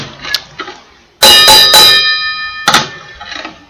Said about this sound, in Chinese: 而且我还找了一个破锅来做伴奏。